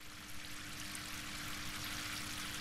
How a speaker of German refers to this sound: Es plätschert so vor sich hin in Kalin Aouns Ausstellung. Vier kleine Springbrunnen sind in der Mitte des Raums installiert. Statt Wasser sprudeln darin Druckerfarben. Ein Brunnen in Cyanblau, ein anderer in Gelb, einer in Magenta